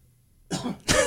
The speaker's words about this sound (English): Pause for cough.